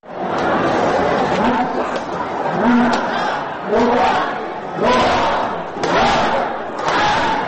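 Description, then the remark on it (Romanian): A large crowd cheers and shouts continuously, welcoming the New Year 2013, with rising whoops and hollers surging in waves every second or so over a dense roar of many voices. “În Australia, Japonia, în insulele din Pacificul de Sud, ca oriunde în lume, anul nou a fost primit cu focuri de artificii, sunete de clopote și urale de bun venit.”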